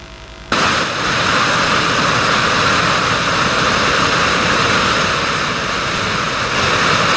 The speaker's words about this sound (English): How many of you have been to a waterfall before? The rest of you probably will not know how loud it gets.